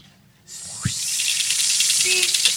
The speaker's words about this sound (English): Snakes. Why did it have to have snakes?